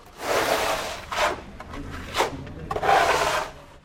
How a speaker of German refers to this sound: Zwei Rentner verputzen die Wand des Konventgebäudes. Es sind die einzigen Bauarbeiten auf dem riesigen Klostergelände.